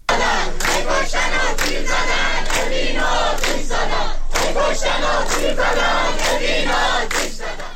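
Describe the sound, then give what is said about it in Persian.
Students of the Persian Gulf University in Bushehr, Iran, chant protest slogans in unison, including "Hey, killing and shooting, they set Evin on fire," voices loud and rhythmic, with regular pulses of shouted syllables repeating steadily for the whole stretch. “دانشجویان دانشگاه خلیج فارس بوشهر با شعار هی کشتن و تیر زدن اوین رو آتش زدن، اعتراض خود را به حملات نیروهای امنیتی و حکومتی به زندانیان زندان اوین ابراز داشتند.”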